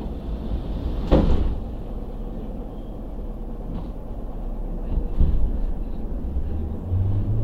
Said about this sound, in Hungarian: ajtók záródnak.